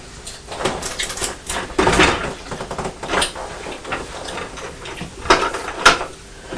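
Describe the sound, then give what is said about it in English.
A door letterbox flap clatters as a little boy pushes a brown envelope through, several short metallic clacks and rustles, with a few scattered knocks and no voices. “Mummy's going to go to the door to see what the little boy pushed through the letterbox.”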